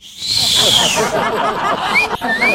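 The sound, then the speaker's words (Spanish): A person imitates a street catcall, whistling the way someone was whistled at in the street: one long, high, sliding whistle that falls in pitch, then two short upward chirps, all over a dense, noisy background. “No, y aparte que así le silbaban en la calle, así.”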